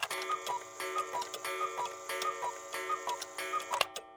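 Many mechanical and alarm clocks tick together on a clock museum floor. Their overlapping ticks form a steady, slightly uneven rhythm at a moderate level, with no voices.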